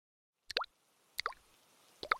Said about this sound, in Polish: Kap, kap, kap, kap. Krople deszczu leniwie leciały z nieba.